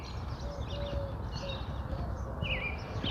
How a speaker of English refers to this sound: Cheerio, cheerio, cheerio. Robins. Pretty sure that's a robin. I suppose it could be a grackle imitating a robin.